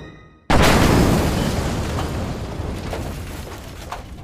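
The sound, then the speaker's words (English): After a brief quiet moment, a sudden massive explosion erupts from a leaking gas pump hit by a gunshot, followed by a long, loud rumbling roar with crackling debris of wood, glass and plastic that slowly fades but keeps roaring to the end. “I missed the creature. But not the leaking gas pump.”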